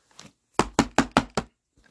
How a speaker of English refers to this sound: grief turns to alarm as he hears the door rattle, followed by a muffled woman's voice. Is anybody home? Hello?